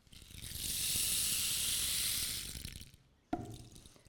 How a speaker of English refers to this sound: A snake in a garden?